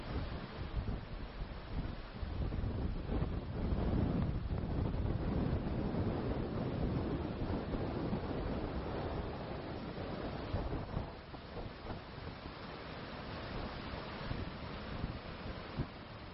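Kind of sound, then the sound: nature, roaring ocean waves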